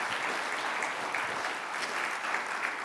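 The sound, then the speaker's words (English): An audience applauds for the speaker's daughter-in-law on her 30th birthday. Many hands clap at once in a dense, steady wash that stays sustained and fairly loud throughout, with no voices standing out. “You clap for my daughter-in-law.”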